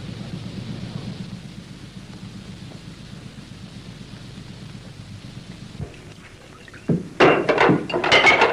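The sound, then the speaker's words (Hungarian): A low, steady rumble gives way to a sudden loud crash as a plate is smashed, with sharp shattering fragments clattering over the next second or so. “Hogy merted összetörni ezt a tányérat?”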